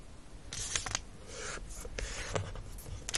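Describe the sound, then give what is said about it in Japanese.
Rustle and crinkle of a sheet of origami paper being folded in half and creased, unfolded, then folded in half crosswise, with a few sharp creasing swipes and soft scrapes scattered over a few seconds, quiet and with no voices. “折り目をつけ、開き、横半分に折って折り目をつけて戻します。”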